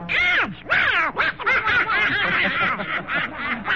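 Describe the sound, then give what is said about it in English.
A loud cartoon duck voice, Donald, quacks and sputters in rapid, nasal, buzzy bursts, almost like snickering laughter, chattering nonstop without any other sounds. “Why, it's not an apple at all. It's a darling little duck.”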